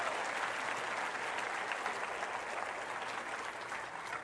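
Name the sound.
audience applauding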